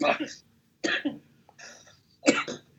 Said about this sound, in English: I've been coughing all day. That's not a good thing to be doing in the current climate.